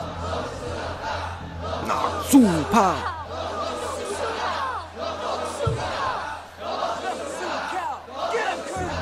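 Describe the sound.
A large crowd chants "White Warrior" together in a steady, repeating rhythm, their voices rising and falling in loud unison bursts about every second and a half, with a constant low hum underneath.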